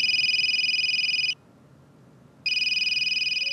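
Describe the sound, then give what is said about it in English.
A cell phone rings loudly with a shrill, warbling electronic trill. One long burst, a brief pause, then the ring starts again. No one speaks. “When it comes to the shrill interruption of a ringing cell phone, no place, it seems, is sacred.”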